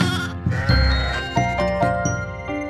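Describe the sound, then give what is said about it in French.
A black sheep bleats in a few wavering calls over a bright musical backing with steady rhythmic notes, the bleats fairly loud and no one talking. “Je suis affamé, je suis affamé, dit le mouton noir.”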